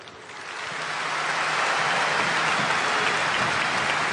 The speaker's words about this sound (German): Die Gedenkminute und der Beifall für Willi Burgsmüller, einen der Granden von Borussia Dortmund.